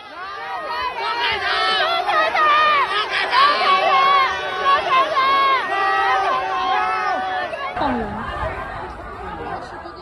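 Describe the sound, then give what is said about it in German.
A large protest crowd on a street in Shanghai loudly chants and shouts slogans such as "Down with the Communist Party, down with Xi Jinping," many raised voices overlapping in a dense, sustained roar that briefly thins near the end before swelling again. “wo die Leute dann skandieren, nieder mit der Kommunistischen Partei, nieder mit Xi Jinping.”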